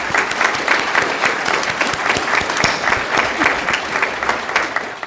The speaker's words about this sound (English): So can we all give a round of applause to everybody who's been at GLHV?